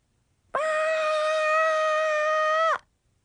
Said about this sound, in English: That is me screaming. Why? I hate taking those 6-hour standardized tests for math, science, and reading comprehension.